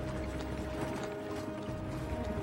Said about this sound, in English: Now, under an overcast sky, a horse-drawn cart makes its way up to Talbot Hall.